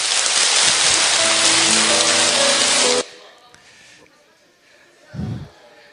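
An audience at Myeongdong Cathedral claps together at the close of a regular weekday Bible study meeting, giving thanks to the Trinity and Mary. The dense, steady burst of applause lasts about three seconds, then stops abruptly, leaving near-quiet with a brief low thump.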